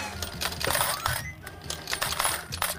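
A rapid, continuous cascade of 28 metal coins clattering out of a machine into a tray as a prize payout, bright jingling hits tumbling over one another for a few seconds, fairly loud.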